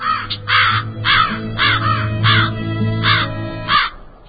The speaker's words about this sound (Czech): Oslušni bolje. Vrane, uplašene od sobstvenog krika, u krik se pretvaraju.